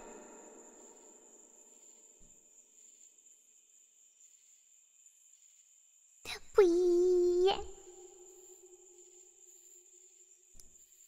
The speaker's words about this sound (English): Cicadas are a bit loud. I'm getting mixed signals. They are loud or they are not. I'll just shut them off. Shut up, cicadas!